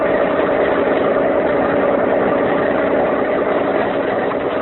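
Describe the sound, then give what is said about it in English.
The motor of a police launch searching San Francisco Bay runs steadily and loudly throughout, a constant droning engine hum with a slight vibrating rumble and no change in pace. “could you not make this boat go faster? The quicker I get my hands on this... Pipe down, Andres. I'm going to turn off the motor again”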